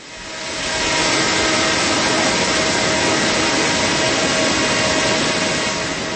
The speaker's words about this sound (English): A drone flies past the deck and overhead above the swiftly flowing river. Students are getting visuals of the area to find the best spots to set up live cameras.